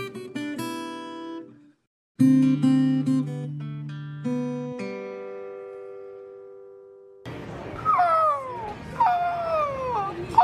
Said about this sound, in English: Seagull. And a wave crashing. A wave crashing. Oh, that is lovely.